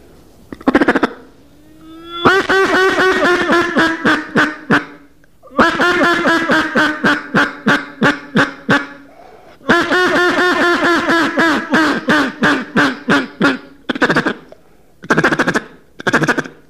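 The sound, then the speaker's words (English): A duck call blown to an approaching duck in a fast, rhythmic greeting sequence, with the pace sped up: long runs of rapid, raspy quacks in several bursts, loud, with short pauses between runs and a few single quacks at the end. “So I've got this duck coming now, and I want to give him some kind of a reassurance or a greeting call, and I'll increase the pace and speed up the call a little bit.”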